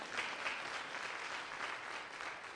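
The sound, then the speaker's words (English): An audience claps steadily, a dense wash of many hands applauding at an even loudness for a couple of seconds without any voices on top. “Clap your hands.”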